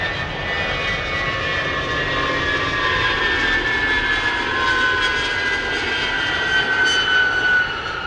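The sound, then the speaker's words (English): A massive C-5 Galaxy transport plane touches down at Dover Air Force Base under a gray Delaware sky. Its steady roar, broad engine rumble and whining tones slide slowly downward as it lands, with no voices present. “A massive C-5 Galaxy transport plane touches down under a gray Delaware sky.”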